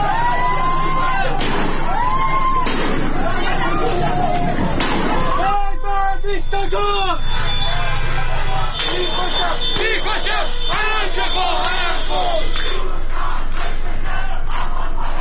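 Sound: protest crowd chanting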